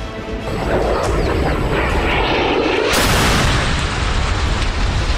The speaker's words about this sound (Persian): خودروها که به 100 متری خروجی محوطه امنیتی فرودگاه رسیدند، یکی از پهپادها 2 موشک به سوی خودروی حامل سلیمانی و المهندس شلیک کرد. یک موشک هم به سوی خودروی دوم شلیک شد.